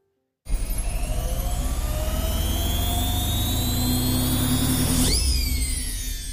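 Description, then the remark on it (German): Washing machines in a laundry room kick into their spin cycles one after another with a sudden loud rumble, motor whines climbing steadily in pitch over a dense mechanical roar, with a sharp swooping tone near the end. “Eine Waschmaschine nach der nächsten begann ihren Schleudergang.”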